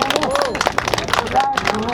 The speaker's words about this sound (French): Et c'est la fin de la course, on peut applaudir bien fort tous les coureurs, bravo!